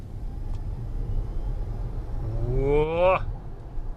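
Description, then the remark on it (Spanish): An electric car accelerates hard from a launch as the driver floors the pedal: a rising electric motor whine sweeps sharply upward over a steady low road rumble, then cuts off abruptly near the end. “Me has dicho que tiene una salida tremenda esto, ¿no? Sí. O sea, le pisamos a él.”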